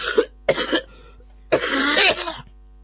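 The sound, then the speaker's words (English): Three harsh, raspy coughs from a person, two short bursts followed by a longer, rougher hacking cough after a brief pause, with no talking. “would you like to hear me cough?”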